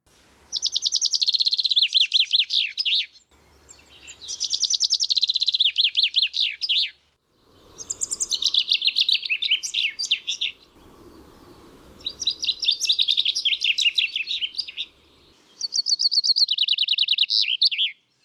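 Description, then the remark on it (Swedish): Birds sing and chirp outdoors in bright, rapid phrases, several bursts of song separated by brief pauses, clear with no voices present. “så jag bestämmer mig för att vila min inre röst och lyssna till fåglarna istället.”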